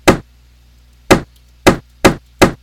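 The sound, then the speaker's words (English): A bumping-into-a-wall sound effect: five dull, punchy thumps, the first alone and the next four coming faster in an uneven rhythm, each loud and short with a quick decay. No one speaks. “That means you're hitting a wall.”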